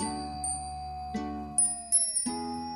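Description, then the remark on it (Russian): Glass bells hanging on trees chime in the wind at irregular intervals, each strike ringing out with a clear, lingering tone that overlaps the next. A few higher, brighter tinkles join in. Soft and unhurried, with no voices. “На деревьях висели стеклянные колокольчики, которые, когда дул ветер, звучали так нежно, что можно было заслушаться”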